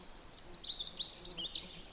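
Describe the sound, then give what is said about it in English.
A Canada Warbler sings a quick, jumbled run of high, sweet notes lasting over a second, a little way back from the recordist on a snowmobile trail in the Devil Track area, against a low background hum and competing sounds. “What I'm trying to get, it's a little bit back from me and there's a lot of competing sounds, is the Canada Warbler song.”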